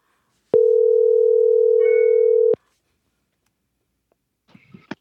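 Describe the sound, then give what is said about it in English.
A steady telephone dial tone hums for about two seconds as a call is placed, a flat, loud electronic tone that cuts off abruptly, followed by silence and a few faint clicks and rustles from the line. “Let's give him a buzz and see if we can't reach him.”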